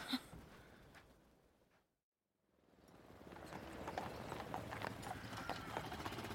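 Horses' hooves clip-clop in a steady rhythm on a hard surface, fading out to a brief silence before returning louder, with occasional snorts or a soft whinny.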